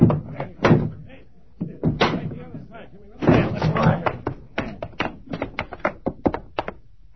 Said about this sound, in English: Open up, Morgan. Push the door in.